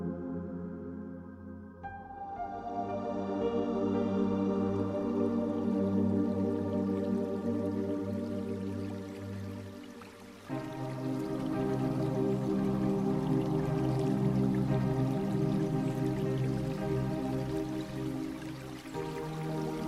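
A small river flows steadily with soft trickling and dripping water, continuous, with no voices present. The flow dips briefly midway before resuming at the same level.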